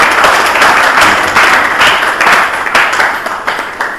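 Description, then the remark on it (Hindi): A crowd applauds steadily for about four seconds as prize winners' names are announced, dense overlapping clapping staying loud throughout before easing slightly at the end. “बहुत अच्छा, बहुत जो तालियां जरा जोर से।”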